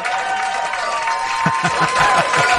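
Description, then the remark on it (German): A crowd applauds steadily, a dense wash of clapping with some cheering mixed in, growing a bit fuller and punchier toward the end. “Hier kommt ein Applaus.”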